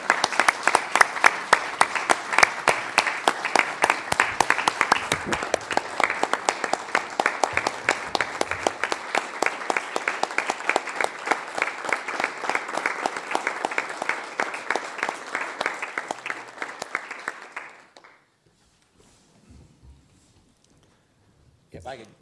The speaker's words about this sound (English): So please join me in a round of applause for that.